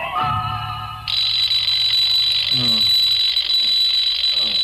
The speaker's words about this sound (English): Alarm clock suddenly goes off.